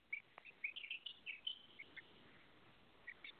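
Birds chirp outdoors in nature in quick, high little bursts, thick at first and then thinning to a few scattered calls, fairly faint, with no voices.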